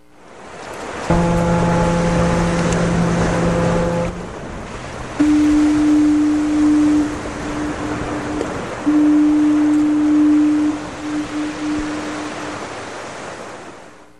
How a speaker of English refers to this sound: And I'm looking forward to it, and I'm trying to kill a few seconds until the trusty foghorn comes into play, and you're going to hear it in just a minute.